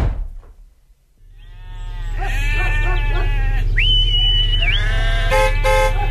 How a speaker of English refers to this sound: Excuse me, do you think you could park your sheep at the side of the road there?